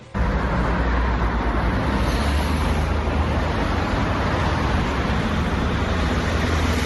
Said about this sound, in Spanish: Pues así suena el tráfico en Birse de Acerca, justo bajo la plaza de Abastos, donde hemos contado en poquito más de cinco minutos alrededor de 70 vehículos, de los que una decena han sido autobuses urbanos, dos patinetes y una sola bicicleta.